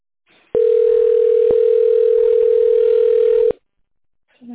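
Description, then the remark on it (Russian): A telephone ringback tone, heard while waiting on hold after calling the company Pozhexpert, sounds as one loud, steady, mid-pitched hum lasting about three seconds, then cuts off abruptly, with a faint voice starting just afterward. “Вы позвонили в компанию «Пожэксперт». Пожалуйста, дождитесь ответа специалиста.”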